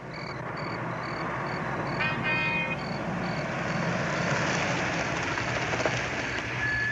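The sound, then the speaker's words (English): A car engine rumbles steadily as the vehicle pulls up near the Bensons' house in the darkness, with a constant broad hiss of road and engine noise and a brief high squeal early on. “You drop down quickly as a car pulls up near the Benson's house.”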